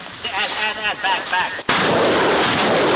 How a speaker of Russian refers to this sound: Солдаты бригады имени князя Романа Великого выпускают по противнику полпакета градов и бегут по машинам, менять точку стрельбы